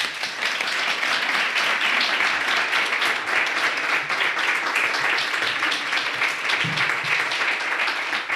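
Steady, sustained applause from a show's audience welcoming the programme's interview guest, a dense wash of many hands clapping at an even loudness for several seconds without any voices standing out.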